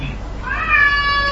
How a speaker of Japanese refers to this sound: 子供が泣いてます。 元気な証拠